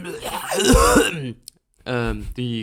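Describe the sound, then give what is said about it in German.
A loud throat clearing with a rough, phlegmy rasp, followed after a short pause by two brief voiced coughing grunts. “Die Gärung in meinem Hals erzeugt Schleim, der Schleim erzeugt Husten, der Husten erzeugt Gärung, Gärung des Schleims im Husten.”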